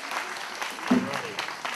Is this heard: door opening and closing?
no